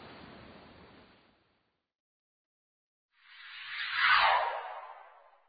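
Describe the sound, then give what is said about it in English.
Ocean waves crash onto a beach: one wave washes out and fades, then after a brief quiet a second, louder wave surges in, peaks with a roar, and hisses away. “Wave after wave crashed onto the beach and raced over the land.”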